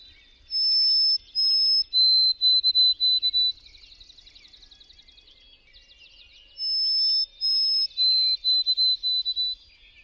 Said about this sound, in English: Her favorite song of all was the song of the white-throated sparrow. This is what she heard when the white-throated sparrow sang.